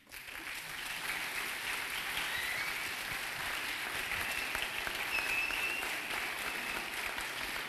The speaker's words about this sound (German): Danke. Dankeschön. Das tut wirklich gut. Danke für den warmen Applaus.